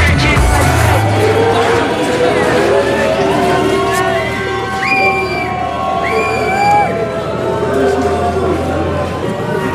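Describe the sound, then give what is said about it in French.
A large crowd roars steadily, some applauding the possible arrival of Nicolas Sarkozy and others whistling, with applause and sharp whistles rising above the din, especially midway through. The noise is loud and continuous, like a packed gathering reacting together. “il y a deux camps, il y a d'un côté ceux qui applaudissent l'éventuelle arrivée de Nicolas Sarkozy et ceux qui sifflent”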